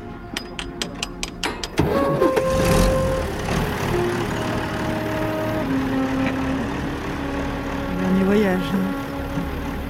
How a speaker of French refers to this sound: C'est le dernier voyage. Allez, voilà. Il y a un camion qui se met en route.